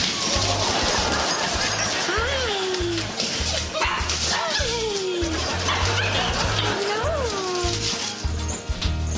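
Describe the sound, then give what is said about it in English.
Puppies in a tub bark and yip in quick, high-pitched bursts, several overlapping calls rising and falling over a steady hiss like splashing water. “Rub-a-dub-dub, there's puppies in a tub. Good morning, puppies.”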